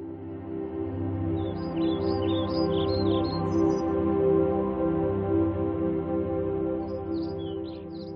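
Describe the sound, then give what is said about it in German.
Faint, distant birds chirp cheerfully in short scattered bursts, a cluster early on and a few more near the end, set against a steady, full low drone that dominates the sound, under a deep blue sky with white clouds drifting by. “Begleitet vom fröhlichen Zwitschern der Vögel in der Ferne.”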